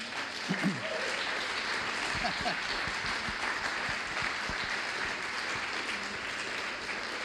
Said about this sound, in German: Geben Sie ihm einen ordentlichen Applaus.